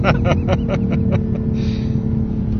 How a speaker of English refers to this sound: That concrete truck is actually moving quite quickly for a concrete truck.